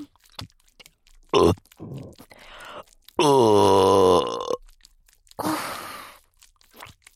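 A loud, drawn-out burp rumbles close to the mic for over a second, framed by a short sharp gulp before it and a rougher, breathy burst after, with no talking.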